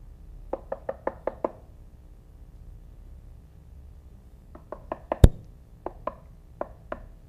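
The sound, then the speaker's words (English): A quick run of six knocks on a door, a pause, then a second series with one sharp, loud rap, trailing into slower, spaced knocks. No voices. “He's knock, knock, knocking at me, and I'm kind of hard-headed, and he knocks a little louder and a little louder, and I want to, okay, I heard ya”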